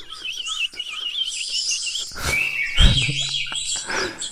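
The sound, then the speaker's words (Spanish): A bird-sound wake-up alarm: birds chirp and twitter continuously, bright trills layered over one another, starting slowly and building progressively, joined midway by a louder burst of calls and a low thump or two. “Voy a hablar un poco y cuando se ponga a activar un poco más el volumen, la cosa es que empieza de forma progresiva a sonar sonidos de pajaritos, fijaros.”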